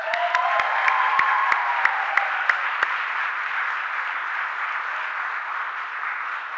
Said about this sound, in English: Everyone thank God for the wondrous gift of Christ being alive with clapping hands.